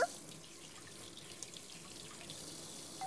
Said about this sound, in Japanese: お兄さんと一緒のお皿洗い楽しいな。